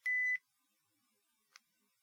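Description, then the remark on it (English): A calculator's divide button pressed twice: a clear, steady electronic beep lasting about a third of a second, then about a second later a much briefer, quieter blip, with no talking. “I didn't say anything while I was pressing the button, but as if you heard those little moments of silence, I was taking the divide button and I was hitting it twice”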